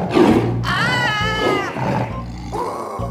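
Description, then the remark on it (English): A tiger lets out a loud roar with a rising, rumbling growl and harmonic snarl, followed by lower grumbling snarls over about three seconds, no talking. “A toga, a toggle, a tiger. A tiger?”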